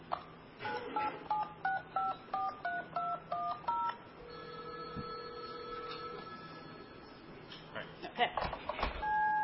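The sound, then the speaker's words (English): A quick, even run of about ten telephone keypad tones beeps out as a number is dialed, followed by a steady held tone over faint line hiss. “Why don't you dial them in the regular way just to show the dialing, and then, just use the phone and show the dialing first just to...”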